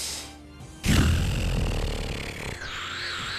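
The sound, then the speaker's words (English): A person growls out a long, loud monster roar voicing a hound in a tabletop role-playing game roaring at the players' characters; it starts abruptly and rasps on for a couple of seconds, shifting in pitch near the end, with no other talking. “And it's gonna roar towards Crash.”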